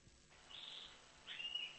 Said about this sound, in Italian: Io sento gli uccelli che fanno fri fri fri fri fri, tutti gli uccelli